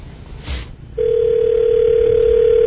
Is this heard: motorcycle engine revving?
no